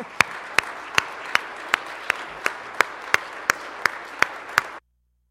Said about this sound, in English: And as a way of just creating a new wave in 2010, let's applaud God's grace.